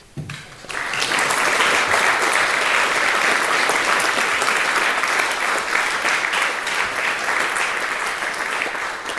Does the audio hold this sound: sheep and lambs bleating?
no